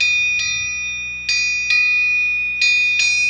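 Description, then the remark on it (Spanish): A tram bell dings about five times in an uneven rhythm, each bright metallic strike ringing on and overlapping the next, fairly loud with no voices. “Y de vez en cuando, quienes lo recordaban, tocaban su famosa campanilla.”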